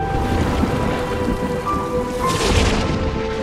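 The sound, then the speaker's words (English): Steady heavy rain pours down while low thunder rumbles through a storm, a continuous wash of noise with no one speaking. “I was afraid of storms at your age.”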